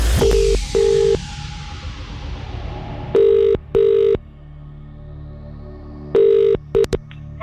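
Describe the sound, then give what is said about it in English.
A phone line calling a prize-draw entrant who texted in rings out in repeated double bursts of buzzing tone with pauses between, preceded by a brief flurry of dialing beeps, all fairly loud and clear with no voices. “So if you have text in, it's time to find out whether or not this is your phone.”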